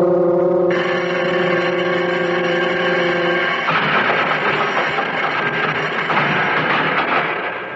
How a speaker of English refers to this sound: Wow, the bell. It jars you, huh? Well, it's awful loud. You'll get used to it. Everything's loud in here.